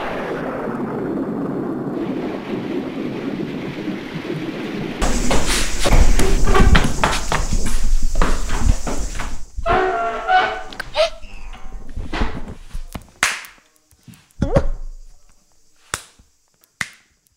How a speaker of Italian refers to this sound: Un intrico furibondo di mani con movimenti serrati e suoni sordi.